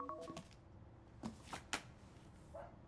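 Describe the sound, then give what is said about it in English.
A telephone being dialed, quietly: a short burst of tones at the start, then several sharp, separate key clicks spaced unevenly, with no voices. “May stands in the doorway, looking down at her, and then goes to the phone.”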